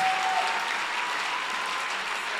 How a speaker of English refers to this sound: Oh, clap your hands for this beautiful, wonderful time we are having.